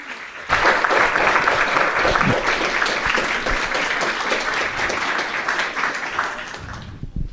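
A crowd bursts into sustained applause, a dense, steady wash of many hands clapping that holds at an even loudness for about six seconds before thinning out at the end.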